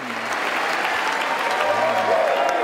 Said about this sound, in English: In December of 2022, Zelensky traveled to Washington to deliver a speech before Congress. As he walked to the podium, there were cheers and thunderous applause.